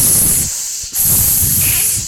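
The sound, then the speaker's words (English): A voice imitates snakes hissing: two long, loud hisses separated by a brief pause, with no other talking. “Just fucking hissing back and forth.”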